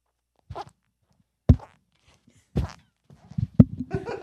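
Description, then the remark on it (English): Shoes squeak with each step as someone walks in a studio, recorded with a microphone held down by the shoes. The steps are spaced roughly a second apart before a quicker cluster near the end: short, moderately loud squeaky thumps with no talking. “As he walks, his shoes are squeaking.”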